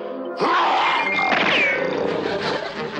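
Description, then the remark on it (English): A man lets out a loud, sustained roaring yell, an old Boy Scout troop yell of the Sabretooth Tigers troop imitating a saber-tooth tiger. The growling cry starts abruptly and holds strong for about two and a half seconds with rough, strained tone. “I was just trying out our old saber-tooth tiger troop yell.”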